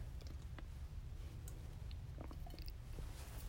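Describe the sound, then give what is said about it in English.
Someone quietly sips water, with soft wet mouth clicks and a gulp scattered over a steady low hum, no talking. “I'm going to grab a sip of water before I start talking.”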